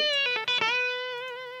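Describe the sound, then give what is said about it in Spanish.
A few quick picked notes on an electric guitar run through effects, then one bright, buzzy sustained note rings out and slowly fades. It sounds fairly loud, with no voices. “edición tonos de guitarra.”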